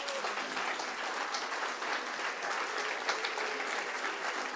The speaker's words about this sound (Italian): Eccoli qua, facciamo un applauso.